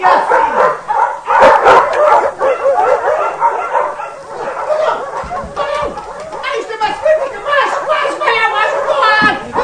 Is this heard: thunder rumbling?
no